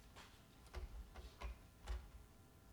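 A clock ticks quietly, its soft, sharp clicks coming about twice a second over faint background hiss, with no one speaking.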